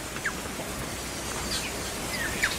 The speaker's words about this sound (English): And some of the ones that we are most intimate with here are the tuis, which is an indigenous New Zealand songbird. They're black with a little white cotton ball-like thing on their throat.